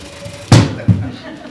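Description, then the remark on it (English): A chair being adjusted, with two solid knocks about half a second apart, the first louder and sharper, followed by a brief scraping rustle. “Excuse me, I got a problem with this chair.”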